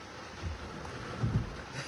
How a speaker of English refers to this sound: Ugh, this rain is... It was so nice 5 minutes ago.